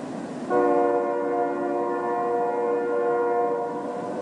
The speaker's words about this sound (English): If you've ever put your head down on a railway track, you might have heard a distant train. Now, in that case, the sounds are coming through the steel of the rail.